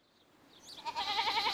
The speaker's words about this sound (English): No, they aren't. They're goats.